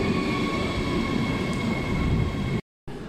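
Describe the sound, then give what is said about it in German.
A train arriving at a station on a snowy morning rumbles loudly, steady and continuous, with sustained high-pitched whining tones riding over the low roar before a brief cut near the end. “Da kommt der Zug.”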